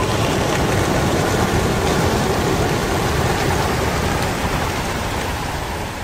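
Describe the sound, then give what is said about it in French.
A dense, steady roar of many wings flapping at once as a flock of Belgian racing pigeons is released in Aurillac in 2017, a loud, even rushing texture like heavy rain that holds throughout with no voices. “On entend justement derrière le son un lâcher de pigeons belges à Aurillac en 2017, c'est une archive du journal La Montagne.”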